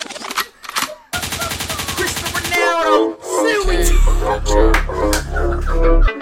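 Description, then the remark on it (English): A loud DJ rewind effect: sharp bursts, then a rapid stuttering spin-back that sweeps downward before a heavy bass-driven beat kicks back in. “They could means rewind, a gunshot means forward. You requested it, so we rewind.”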